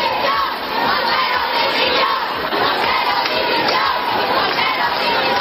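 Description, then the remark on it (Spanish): A large protest crowd at a march in Madrid, including a group of women, shouts loudly and continuously, many voices blending into a dense roar of chanting and yelling, sustained with no pauses. “Y la ministra de Igualdad, que evitó escuchar esos gritos y eludió participar en la marcha principal en el centro de Madrid”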